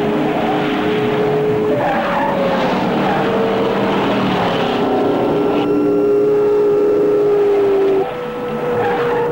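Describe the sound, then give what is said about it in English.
A rebel chase car's engine roars loudly and steadily as it comes out of the hills onto a road to join a pursuit, with tires screeching in long sustained tones over the top, continuous without any speech. “Suddenly, a rebel chase car roars out of the hills and onto the road to join the pursuit.”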